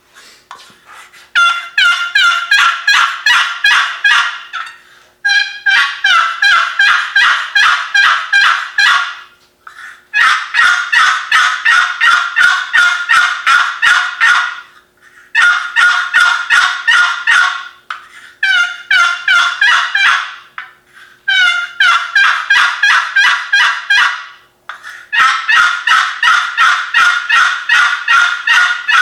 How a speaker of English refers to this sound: Here is some yelps, putts, and clucks on my Ozark hen box call.